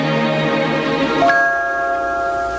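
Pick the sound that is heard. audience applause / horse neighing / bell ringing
bell ringing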